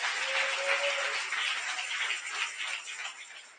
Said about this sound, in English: Clap those special hands.